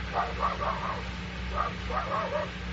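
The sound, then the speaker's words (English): A dog outside a cell barks in two quick bursts of several yips each, over a steady hiss and low hum like an old recording. “That dog is barking the same way he barked.”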